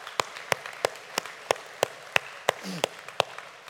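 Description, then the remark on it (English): Congregation applause for Happy Mother's Day that sounds like steady, evenly paced hand claps, about three per second, crisp, with a brief faint vocal sound near the end. “Can we give a round of applause for that?”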